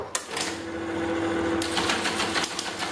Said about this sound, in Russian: Во-первых, абонентские терминалы или телетайпы. Это были электромеханические печатающие устройства, такие как популярные модели Siemens T100 или телетайп Model 33.